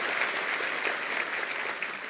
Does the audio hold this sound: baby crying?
no